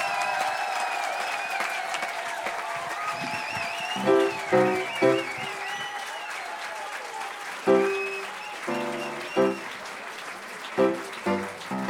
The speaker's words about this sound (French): Attendez, tradition. Il y a des traditions. Lorsqu'on chante une goguette pour la première fois, on applaudit. Deux fois plus fort